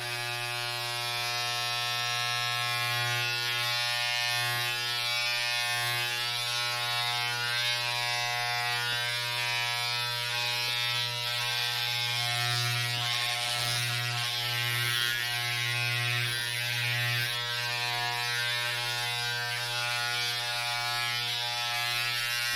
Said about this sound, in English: is behind you with a razor. And I'm gonna oops and make you go bald. Okay, it's gonna turn on now. It's loud.